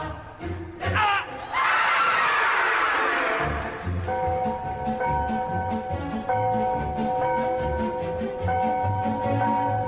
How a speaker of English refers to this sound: You better scream real loud. Yeah, I can. I'll scream for help.